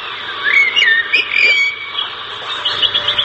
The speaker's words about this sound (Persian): پرنده ها جفت جفت با آسمان می پرند و چیخ چیخ می کشند و خوش می خوانند.